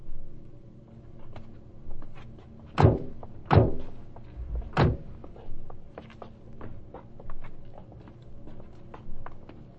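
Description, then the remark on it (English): Three heavy car doors thud shut in quick succession, loud, with a scatter of lighter clicks and taps around them as the car is locked, and no one talking. “Make sure you lock your doors.”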